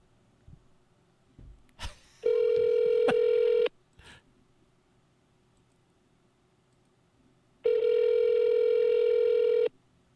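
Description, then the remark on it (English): A few quick clicks of a phone being dialed for a fourth call attempt after the line kept dropping, then a steady electronic ringback tone that sounds twice, each burst lasting over a second, with a pause of silence between them. “Call number 4.”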